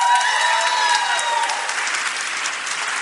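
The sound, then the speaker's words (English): A room full of people claps steadily to show support for Pete Buttigieg, dense overlapping applause at a fairly even loudness that fades slightly toward the end. “How many people in this room are currently planning to support Buttigieg? Please clap.”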